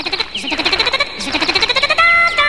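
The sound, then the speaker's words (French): A bird calls in a fast, pulsing trill of bright, high chirping notes, repeated steadily for a couple of seconds with sliding whistle-like tones, loud and alone with no talking. “Puis ça, c'est un oiseau, je suppose.”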